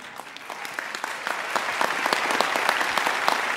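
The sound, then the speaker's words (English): An audience at the 74th Tony Awards applauds steadily, dense clapping from many hands that gradually swells louder over a few seconds, with no voices rising above it. “I say that not to elicit your applause, but to highlight the fact that the Latine community is underrepresented in American theater, in New York theater, and most especially on Broadway.”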